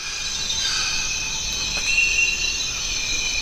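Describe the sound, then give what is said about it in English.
Dense Amazon rainforest ambience on the Zabalo River in Ecuador, alive with insects: a steady, shimmering wall of high-pitched buzzing and trilling, several layered tones droning continuously at an even, moderately loud level with no voices. “Welcome to the Zabalo River in Ecuador's Amazon rainforest. It's one of the world's remaining truly quiet places.”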